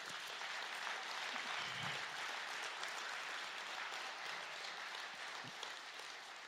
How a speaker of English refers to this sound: Come on, somebody, clap your hands to him.